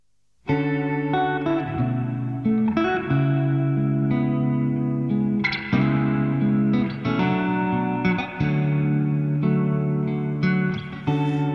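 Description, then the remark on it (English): A live acoustic song performance recorded at the Village Studios in Los Angeles opens with steady, ringing chords that shift every second or so, warm low notes under a shimmering, slightly echoing top, played at an even volume without singing yet. “let's hear a live acoustic performance of her new song”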